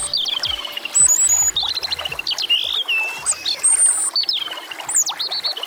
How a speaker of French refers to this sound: Aujourd'hui, je vous présente le rouge-gorge.